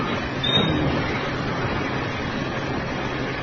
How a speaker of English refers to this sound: The train arrived at Kurukshetra station.